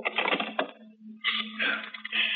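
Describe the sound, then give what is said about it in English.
A telephone being dialed: two bursts of rapid mechanical clicking and whirring, separated by a brief pause, with no voices. “knowing how foolish it was, knowing it, went to the phone and dialed.”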